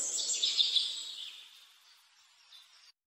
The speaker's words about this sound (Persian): افتاده رو سنگا کنار رودخونه، صدای پرنده ها میرسه به گوشم.